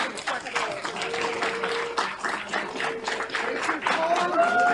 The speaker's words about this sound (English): Okay, that was the, well, going on the applauding. That's everybody in the committee, the packed room.